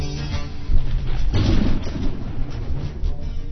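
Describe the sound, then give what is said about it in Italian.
A deep, booming gas explosion set off by a lit match, with a sudden burst of noise, then a heavy low rumble that rolls on and slowly fades. It's loud, and no one speaks. “Se accendiamo un fiammifero, esplode tutto, ci sarà un'esplosione.”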